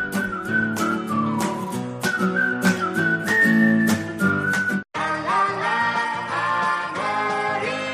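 human whistling a tune

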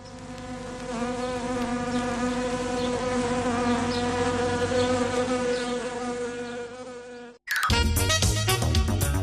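buzzing wasps sound effect

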